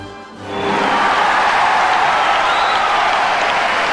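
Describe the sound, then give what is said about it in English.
A large crowd at an ice rink bursts into loud, sustained applause for a skating performance of Bolero, people standing and applauding on the far side of the rink; it swells within a second and holds as a dense, roaring wall of clapping and cheering around the building. “A roar of applause, and on the far side of the rink, the people are standing and applauding.”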